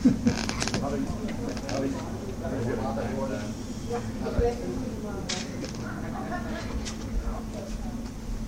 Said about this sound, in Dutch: Ik moet even de deur openmaken.